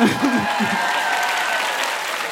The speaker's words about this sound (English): I also love applause. Just the thought.